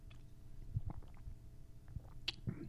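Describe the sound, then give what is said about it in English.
Someone takes sips of water, with several soft, wet gulps and swallows spread irregularly across a couple of seconds. No one speaks. “Thank you, Lord, again for this water.”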